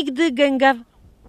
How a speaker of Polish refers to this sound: Gęgawy. Zobacz, gęgawy lecą nad tym razem. Nad naszymi głowami.